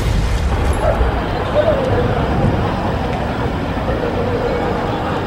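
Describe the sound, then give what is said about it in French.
A heavy tank engine rumbles loudly and continuously, a deep mechanical roar that stays steady for the full five seconds with no pauses, as a stopped tank restarts on a city avenue. “Soudain, le char sort de sa torpeur et redémarre.”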